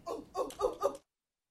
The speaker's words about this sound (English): And without that dog bark, I'd fall asleep back there.